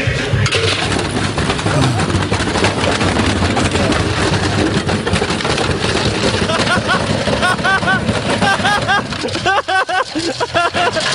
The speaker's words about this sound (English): Have you ever wondered what it would sound like if you threw a brick into a washing machine. All right. It sounds great.